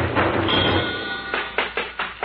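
A burst of rushing noise gives way to a quick series of about five firm, evenly spaced knocks on a door.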